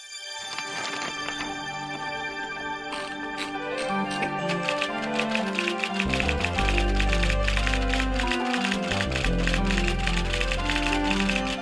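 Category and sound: machine, typewriter clattering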